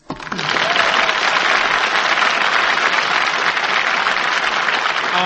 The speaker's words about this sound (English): Why is all them Yankees clapping their hands up? Well, it's our studio audience, Little Abner. Servicemen welcoming you to Hollywood.